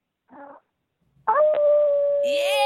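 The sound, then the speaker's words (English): A person imitates a wolf howl: after a brief vocal sound, a loud, sustained tone rings out, holding steady for more than a second before sliding upward at the end. “Do you want to give us a howl before you go?”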